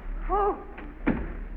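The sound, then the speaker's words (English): A door swings shut with a single solid thud as someone locks it, preceded by a faint click and a brief vocal exclamation, with a low hum underneath. “Locking the door.”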